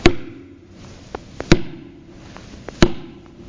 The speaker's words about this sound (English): You ready? I stand knocking at the door. This is what it means.